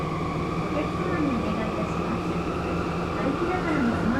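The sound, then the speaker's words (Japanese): Inside a moving subway train in Miyagi Prefecture, Japan, ridden toward Nishi Park: a steady, loud rumble of wheels and carriage noise, with an electric motor whine that rises and falls in pitch throughout. “地下鉄にふらりと乗ってみました。”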